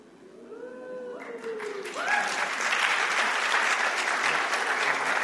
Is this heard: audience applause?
yes